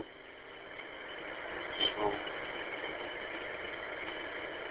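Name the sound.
small tractor engine running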